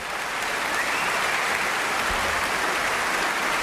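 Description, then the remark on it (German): Steady applause from an audience, a dense, even wash of many hands clapping at once, sustained at a constant level with no voices standing out. “Außerdem gibt es den Applaus schon sehr lange, sagt sie.”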